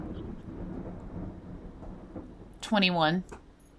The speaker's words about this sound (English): And it's like raining and storming, right? Right, yeah.